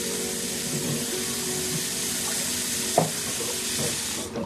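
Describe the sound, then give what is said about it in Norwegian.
A kitchen tap runs in a steady rush of water while a woman wearing dishwashing gloves washes dishes in a scene from Eva Sørhaug's film Lunsj, with a single sharp clink of crockery partway through and no voices. “Hun vier han ingen merksemd og starter rutinemessig på oppvasken.”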